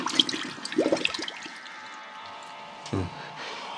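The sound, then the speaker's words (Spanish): Muffled, churning water with bubbly gurgles in the first second, then a steady watery rush and a brief surge near the end, as a lone diver swims underwater using only his hands and feet. No voices. “Calimán bucea hábilmente”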